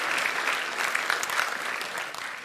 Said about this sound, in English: We continue to cheer and give thanks for you. In fact, let's give another hand and thank the Lord for them.